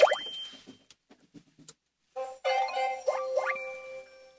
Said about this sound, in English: All right, so I'm starting the car in 3, 2, 1.